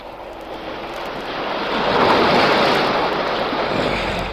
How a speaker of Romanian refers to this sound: În ziua de 4 ianuarie, Nautilus naviga încercând să pătrundă în Oceanul Indian prin periculoasa strâmtoare de Torres. Profesorul Aronnax privea de pe puntea submarinului, împreună cu Ned Land și Conseil, valurile care se izbeau cu furie de stânci.